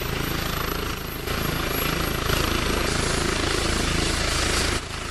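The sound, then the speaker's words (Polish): A Polish medical air rescue helicopter on its first flight from a new base, called out to a 4-year-old boy having seizures; its loud, steady rotor chop and engine roar fill the scene, dipping briefly near the start and end but continuing throughout, dominant with no voices. “Dyspozytor medyczny wezwał śmigłowiec do 4-letniego chłopca, u którego doszło do drgawek.”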